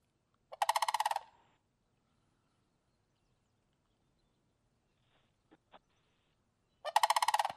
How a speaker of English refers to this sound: Tyler's got the songs for both the sandhill and the hooper. Sandhill, let's try them first.